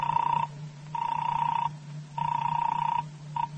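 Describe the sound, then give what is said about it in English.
A telephone rings in repeated buzzy bursts of about half a second to a second each, with short gaps between them, over a steady low hum and no voices. “I'll give him a ring. Hand me that phone, will you?”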